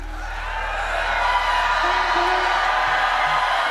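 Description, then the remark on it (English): A large audience shouts and cheers together in a dense, sustained roar of overlapping voices, with occasional whoops rising above the crowd noise throughout. “Keep shouting.”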